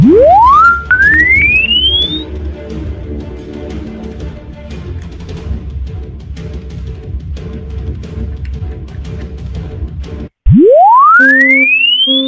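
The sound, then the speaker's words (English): A pure sine tone sweeps steadily upward in pitch in a linear test sweep, loud and clean, once at the start and again near the end, with a dense, busy stretch of sound filling the middle, played on a telephone hold line. “Now for linear sine wave test sweep.”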